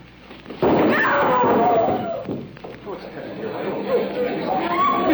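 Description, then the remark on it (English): A sudden heavy thud of a sandbag, dropped by a stagehand, falling onto a woman on a stage lands with one loud impact, followed by a burst of alarmed crowd chatter and overlapping voices. “now Miss Michaels has been hit by a sandbag”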